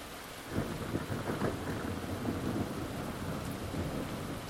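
rainstorm with thunder

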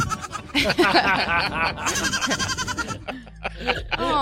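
baby goats bleating

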